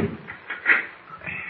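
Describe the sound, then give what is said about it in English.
Metal bolts on a door in a wall inside a hollow volcano scrape and slide back in a few short, rasping strokes as Mr. Kent opens it, the loudest grinding pull in the middle, fairly quiet with no voices. “Look, there's a door. Oh, let's try it.”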